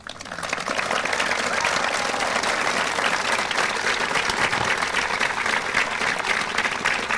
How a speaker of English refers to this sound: that you make sure you tell your brother Stuart and brother Bradley that the people not only applauded you, but they applauded them as well.